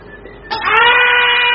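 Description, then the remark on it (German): After a brief low rumble, a steam pipe up overhead suddenly bursts into a loud, steady hiss with shrill whistling tones running through it, sustained without letup to the end. “Das Dampfrohr da oben!”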